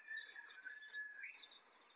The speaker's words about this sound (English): Listen to the birds. I got a cool bird. There it is again. He's close.